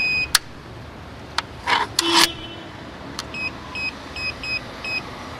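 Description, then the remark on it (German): A radio bike lock engages on a bike at the rental parking by the train station in Biel, with a few sharp clicks and mechanical clunks, then gives a run of about seven short, high-pitched beeps in a steady rhythm. No one speaks. “Ich schließe mein Velo nochmal beim Mietparkplatz mit dem Funkschloss ab.”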